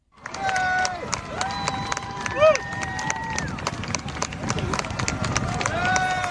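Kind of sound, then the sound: crowd, crowd of well-wishers cheering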